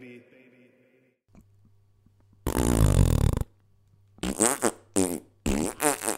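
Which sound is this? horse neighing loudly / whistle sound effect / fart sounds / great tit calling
fart sounds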